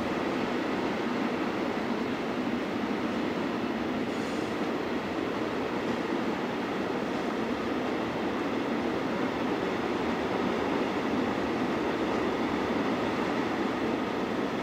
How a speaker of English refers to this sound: Where else can you hear the sound of freight trains going by on the radio? That's the last car.